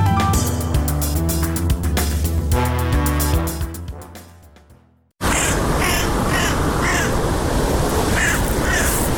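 Music fades out, then a crow and magpie call repeatedly with harsh, rasping cries over a steady noisy outdoor background.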